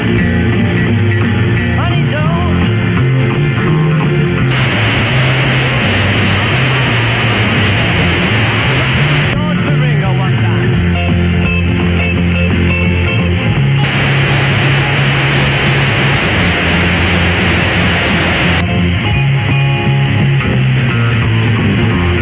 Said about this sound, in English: We're listening to WWKB on 1520 in Buffalo, New York. When WSAI on 1530 turns on their iBox, you hear the hiss. And when they turn it off, you hear WWKB quite clearly. Here's an example.